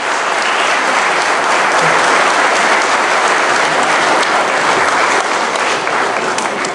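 Loud, sustained applause from an audience, a dense wash of many hands clapping at steady intensity for several seconds with no voices standing out.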